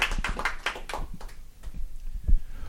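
Scattered applause from a small audience: a brief flurry of overlapping claps that thins out after about a second, leaving a few isolated, softer claps at the end.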